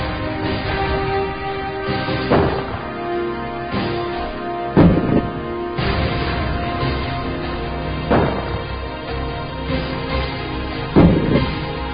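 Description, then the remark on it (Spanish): Heavy naval cannon blasts boom out about five times at irregular intervals as the Huáscar fires 300-pound shots at the hull of the Esmeralda off Playa del Colorado, each a sharp, loud burst over a steady dramatic musical bed, with no voices. “Frente a la playa del Colorado, el Huáscar acierta el primer cañonazo de 300 libras en el casco de la Esmeralda, destrozando el camarote del segundo comandante, teniente primero Luis Uribe, y declarándose al mismo tiempo un incendio.”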